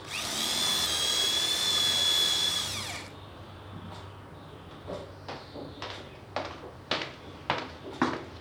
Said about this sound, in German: Moment, ich muss gerade noch ein Loch bohren.